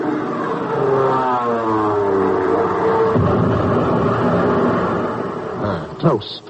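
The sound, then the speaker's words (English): A plane dives in on a bomb run at a submarine, its loud engine whine sliding steadily downward in pitch, giving way to a rough, sustained roar and a sharp burst near the end. “Oh, there's the first one now coming in for a bomb run.”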